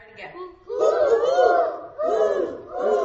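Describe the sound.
Several voices imitate great horned owl hoots together during a science activity with first graders, giving three drawn-out, wavering hoots in a row. They are loud, with a short pause before each new hoot.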